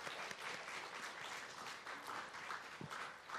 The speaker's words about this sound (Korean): 네, 우리 하나님께 영광의 박수 올려드리겠습니다.